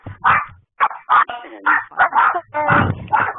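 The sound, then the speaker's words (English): Dogs bark over a caller's phone line in a rapid run of loud, sharp bursts, one yap following another with barely a pause across the whole stretch. “Whoever dogs those are, could you mute your line?”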